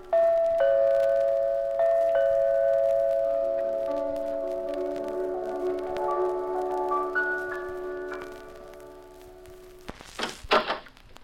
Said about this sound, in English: You stick your finger on the doorbell. But all you get is piano music. You keep pumping at that bell.